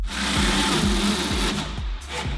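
power drill drilling

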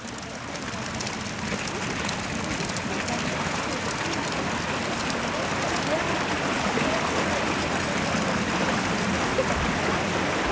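small stream flowing water

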